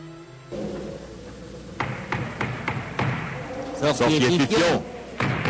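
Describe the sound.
Several sharp knocks on a wooden door, the door of the sorcerer Fifion, in an uneven rhythm, followed by a voice calling out over a low background hum.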